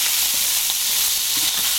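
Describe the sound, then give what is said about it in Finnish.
Steady, bright crackling sizzle of food frying in a pan, a dense high hiss with small pops scattered throughout, fairly loud and continuous with no voices. “Tässä pannulla pirisee hannulla.”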